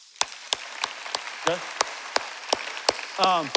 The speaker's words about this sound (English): So if the word of God hits, you know you can clap. So let's try clapping.